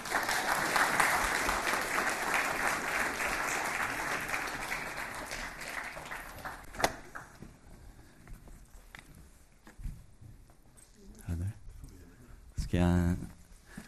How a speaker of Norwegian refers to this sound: En applaus for det.